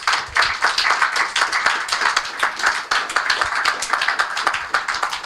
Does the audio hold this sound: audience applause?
yes